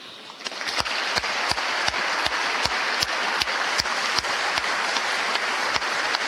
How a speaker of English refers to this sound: Bipartisan applause again for Governor Parson.